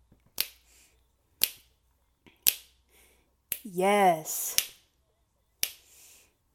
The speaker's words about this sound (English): I can't help but snap my fingers to this.